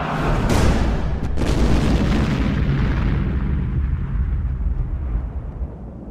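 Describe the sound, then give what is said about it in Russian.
A grenade explodes under a small wooden table with a loud burst at once, followed by a heavy rumbling roar that slowly dulls and fades over several seconds, with no voices present. “И в это время раздался оглушительный взрыв.”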